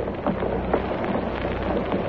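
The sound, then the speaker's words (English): A steady, dense shuffling of a large crowd's shoes scraping over the pavement of a plaza as people rise, a soft continuous rustle with faint scuffs scattered through it and no voices. “There's no sound but the shuffle of shoe leather.”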